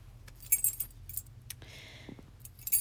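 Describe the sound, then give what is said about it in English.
A set of keys to a third-floor room jangles in a few quick metallic bursts, with a brief scraping rustle midway, over a low steady background hum and no talking. “Keys to the room, and it's on the 3rd floor?”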